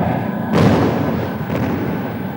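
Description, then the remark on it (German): Bombs dropped by attacking aircraft explode: a heavy, muffled explosion booms out with a deep low rumble, followed by a fainter second blast, over a constant droning background noise. “Achtung! Bombenwurf!”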